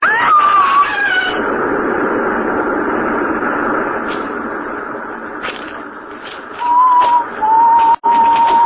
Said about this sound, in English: Oh, you're screaming.